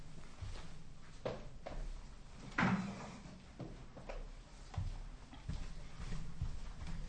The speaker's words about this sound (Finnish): Mä irrotan tuosta tuoli.